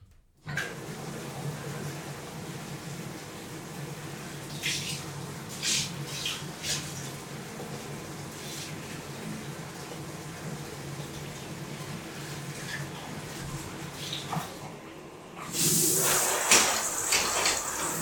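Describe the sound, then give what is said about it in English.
A steady hiss of tap water pouring into a bathtub as the water is warmed up, with a few faint knocks along the way, then a sudden louder, splashier gush near the end. “Since my spoiled baby just wanna chill, you sit there and let me warm up the water for you, okay?”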